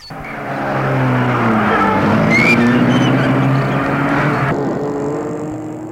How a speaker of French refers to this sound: Il la fait rentrer dans sa voiture, entre lui-même et la met en marche.